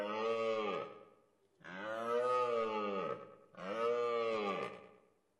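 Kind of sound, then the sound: animal, stag deer bellowing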